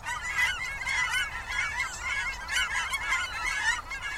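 A dense chorus of greater white-fronted and cackling geese calling continuously, overlapping high yelping and laughing honks from a large flock, steady and fairly loud with no one speaking.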